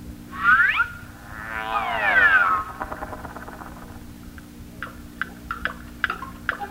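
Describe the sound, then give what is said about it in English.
Several clocks ticking in crisp, slightly uneven clicks during the second half, after a cat meows twice, loudly, at the start. No one speaks. “This must be Switzerland, where they make such wonderful clocks. Hear them ticking?”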